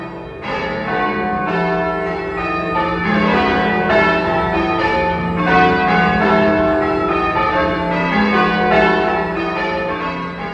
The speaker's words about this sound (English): We start practicing around about 7:45 and we finish by 9:00. Mm-hmm. We try to keep very strictly to those limits. We have the Noise Abatement Act, and we don't want to annoy anybody. But there we are, the bells have been ringing for over 450 years,